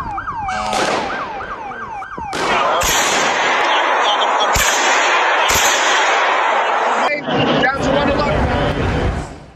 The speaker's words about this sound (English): A man standing by the church front door, holding two guns and wearing a hat and a mask, was shooting into the air.